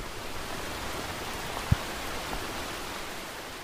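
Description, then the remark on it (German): Steady rain falls in Santa Anita La Union in a continuous, even hiss, with a single louder drop or tap standing out briefly near the middle. No voices are heard. “Zum Abschied regnet es.”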